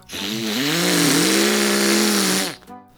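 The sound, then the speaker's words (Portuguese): A chainsaw runs loud for about two and a half seconds, its buzzing motor wavering slightly in pitch before abruptly cutting out; no one speaks. “Por isso, esta é aquela altura do ano em que eu passo a viver com uma motosserra humana.”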